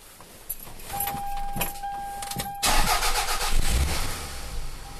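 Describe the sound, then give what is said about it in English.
A car's ignition chimes and the starter cranks with a few clicks before the engine catches, then settles into a steady rumbling idle with no one speaking. “Many people think it's a good idea to idle their cars for a few minutes to warm them up during cold weather.”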